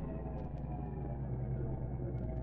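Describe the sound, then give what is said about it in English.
A car engine hums and rumbles steadily as the car turns slowly into a driveway, a low continuous drone with no voices and no change in loudness. “Turn into the driveway, Reed.”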